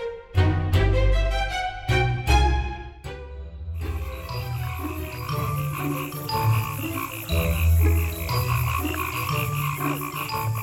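Loud toad croaking: a handful of sharp, rasping croaks in the first few seconds, then a dense, continuous chorus of overlapping croaks filling the rest, with no voices.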